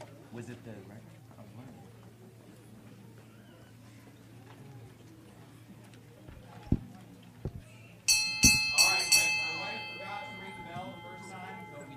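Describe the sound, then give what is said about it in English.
A bell rings out in a church service in a quick cluster of loud strikes to mark a new attendance record of 301, its bright metallic tone lingering and fading afterward, following a stretch of low murmuring voices and room noise. “We always ring the bell whenever we break the attendance record.”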